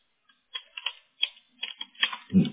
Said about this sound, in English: I'm going to set up this calendar appointment and then when I get it set, I will send it to you. Oh wow. Here I'm typing June.